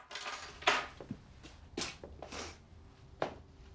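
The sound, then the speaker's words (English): A few sharp clattering impacts and a light metallic jingle as a woman entering her house puts down her bag and keys on a hard surface, with soft handling noises between. “enters and puts down her bag and keys.”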